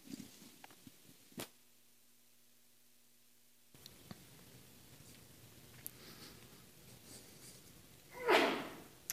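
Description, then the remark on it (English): A single loud, explosive sneeze bursts out near the end, following a stretch of quiet room tone broken only by a few faint clicks and knocks. “Bless you.”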